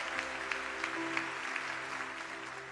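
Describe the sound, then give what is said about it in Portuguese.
An audience applauds the Lord steadily, a dense wash of many hands clapping at once, with sustained musical tones humming underneath and no one speaking. “Se você está comigo, pode até aplaudir o Senhor.”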